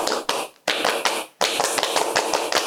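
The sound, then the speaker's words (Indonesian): A group of scouts claps out the rhythmic Pramuka scout clap (tepuk pramuka): bursts of sharp, crisp claps broken by two short pauses, ending in a quicker steady run. No one speaks. “Baik, sebelumnya tepuk pramuka.”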